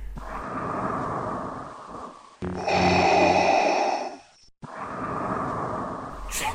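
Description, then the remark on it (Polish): Heavy, rasping panting breaths rise from somewhere in the depths during a spiritualist séance, coming in a few long, loud bursts with a harsher, throatier stretch in the middle, with no talking. “Wszyscy zresztą dopiero po chwili zwrócili uwagę na narastające gdzieś z głębi odgłosy dyszenia, które nagle zmieniło się w chrapliwe, ale wyraźnie słyszalne pytanie.”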